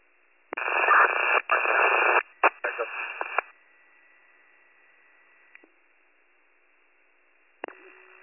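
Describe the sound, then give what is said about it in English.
A burst of garbled, unreadable two-way radio transmission on a Warren County emergency dispatch channel crackles in broken chunks, band-limited and distorted, then cuts to near silence before a brief squelch click at the end. “your radio is unreadable.”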